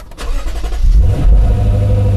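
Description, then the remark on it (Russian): A car engine cranks and fires up from a cold start, heard from inside the cabin, settling into a loud, deep, steady idle with a muffled low rumble. “Что касается звука, который самый неподдельный интерес, конечно же, вызывает при холодном пуске, я специально записал для вас холодный пуск изнутри, то есть из салона автомобиля, и холодный пуск снаружи.”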